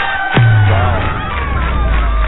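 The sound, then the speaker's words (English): A crowd cheers and whoops loudly with applause mixed in, a dense, sustained roar of many voices lasting a couple of seconds, with a low thud near the start. “I was just listening to the applause by this group that we've had, you know, the past few weeks.”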